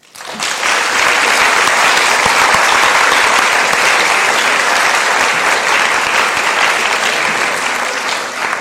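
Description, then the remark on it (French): A crowd applauds steadily, dense clapping rising quickly and holding at a loud, even level for several seconds with no voices standing out. “Toutes ces personnes et ces équipes méritent vos applaudissements.”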